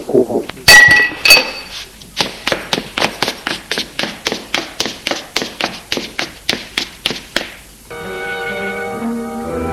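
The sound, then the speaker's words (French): A man drops a metal knife, which clatters down with a couple of bright, ringing clinks, followed by a long, quick, even series of sharp taps like hurried footsteps as he runs away, then a sustained tonal sound. “Il lâche ce couteau et se sauve en courant.”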